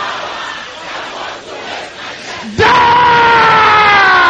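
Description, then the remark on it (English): A large crowd shouting a prayer in unison, starting as a dense murmuring roar and then surging into a loud, sustained collective yell that swells and holds for several seconds. “Can I hear you shouting it loud and clear?”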